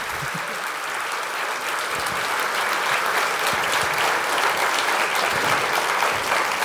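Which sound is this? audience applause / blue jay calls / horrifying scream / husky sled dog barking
audience applause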